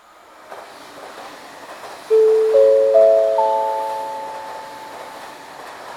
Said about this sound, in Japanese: まもなく下り列車が参ります。危ないですから黄色い線まで下がってお待ちください。